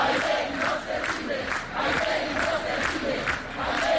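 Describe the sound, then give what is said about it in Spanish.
A protest crowd of more than a thousand people in Bailén on a Saturday, demonstrating for safety against crime and squatting, shouts in rhythmic unison: loud chanted bursts repeating roughly every half second over a steady roar of many voices, with no individual speech standing out. “Gritos como estos se escucharon en Bailén durante este pasado sábado.”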